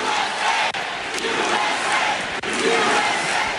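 crowd cheering

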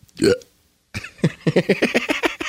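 burp

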